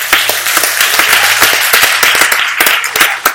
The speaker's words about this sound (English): My God. You receive that, clap your hands.